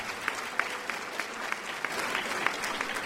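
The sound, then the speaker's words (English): An audience at Middle Tennessee State University (MTSU) applauds steadily, a dense patter of many hands clapping with a few sharper claps standing out, sustained at moderate loudness throughout. “Let's give him another round of applause, ladies and gentlemen.”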